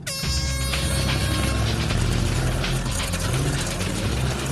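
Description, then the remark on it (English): The Munch Bunch team's tracked skid-steer vehicle pulls away on a timed run around a course with bends: a loud, steady motor whine and low rumble with continuous clattering, ratchet-like track noise throughout, and no voices. “This round will be an extreme test to the traction of the tracks and to whether the skid steering will get them around the bends.”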